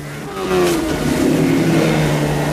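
boat motor running

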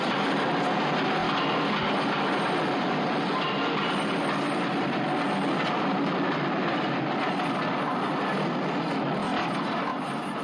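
train rolling by

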